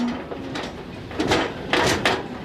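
Prim'Holstein dairy heifers, 1,000 of them, clatter one by one up a metal gangway onto a livestock ship in the port of Sète in southern France, with irregular heavy thuds and scraping bursts of hooves on the ramp, with no voices.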